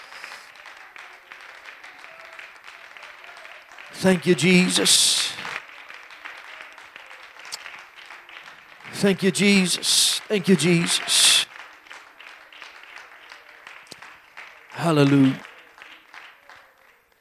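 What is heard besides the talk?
audience clapping and applauding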